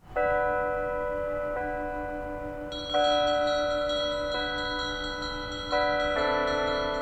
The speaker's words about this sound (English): Bells rang out at noon today to remember those who died as a result of COVID-19. Pueblo Mayor Nick Grandisar joined first responders at a Catholic church, though other houses of worship and residents were encouraged to take part in the bell ringing.